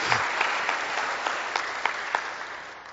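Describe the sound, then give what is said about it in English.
A steady burst of applause from an audience for a speaker's wife, marking their 30th wedding anniversary: dense clapping with a few sharper claps standing out, holding a fairly even level for a few seconds before easing slightly. “She deserves a big hand of applause.”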